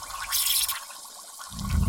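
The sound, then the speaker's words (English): Water gushes and sputters from a hose in Fairplay, Colorado, in a loud rush, with a hissing spray early on and a deeper churning surge near the end. No one speaks. “Wait, what's up with this hose?”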